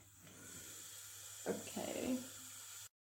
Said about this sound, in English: I'm gonna like put a bit of like water like at the bottom.